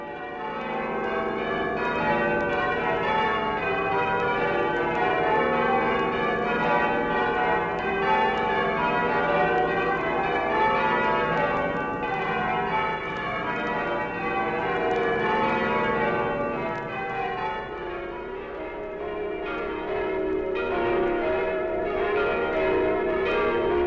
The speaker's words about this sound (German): Jenseits des Kanals, in Westminster, hängen die Männer an den schweren Seilen und lassen Klöppel und Glockenwand aneinanderschlagen.